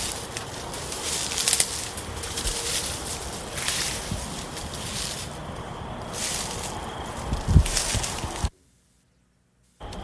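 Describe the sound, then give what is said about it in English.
Footsteps crunch and rustle through dry leaves in a steady, noisy shuffle of crackling steps for about eight seconds, then the sound cuts off abruptly into silence. “It's so noisy to walk through these leaves.”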